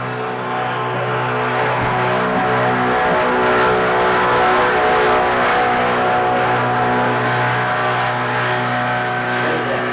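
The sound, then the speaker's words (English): A big tractor or grader engine roars, a heavy, steady diesel rumble with droning tones that stays loud for the whole stretch as it passes. Nobody speaks. “That was a big tractor, big grader.”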